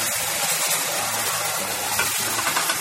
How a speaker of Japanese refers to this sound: さあ、ボールを洗うわよ。水の音が出ます。